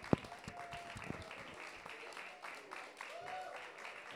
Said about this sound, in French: Et on va pouvoir applaudir nos 5 groupes et artistes qui vont rentrer sur scène. Allez-y.